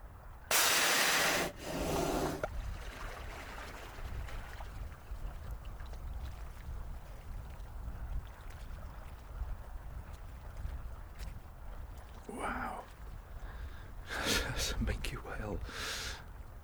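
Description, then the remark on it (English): A whale surfaces to breathe about 3 meters away off the edge of sea ice over open ocean, exhaling in a loud, explosive breathy whoosh, then a second shorter blow. Softer hissing breaths follow later over a steady low rumble of wind and water. “Surfaced to breathe about 3 meters away from me off this ice edge.”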